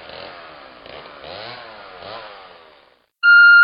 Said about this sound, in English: Chainsaw Hero. This autumn, the trees will bow to a new master.